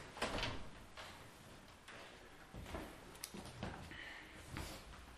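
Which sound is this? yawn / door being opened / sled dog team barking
door being opened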